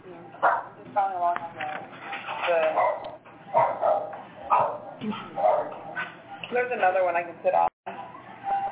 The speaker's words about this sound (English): Like, can you mute the phones on your end because I'm hearing dogs and babies and I can't hear you?